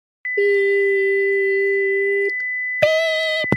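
A long, steady electronic beep holds for about two seconds, then after a short gap a second, higher-pitched beep sounds more briefly, with a thin high tone running underneath throughout.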